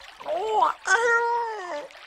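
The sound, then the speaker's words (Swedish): A cat meows twice, a short rising-and-falling call followed by a longer, drawn-out meow that trails downward at the end. No one talks over it. “Katten.”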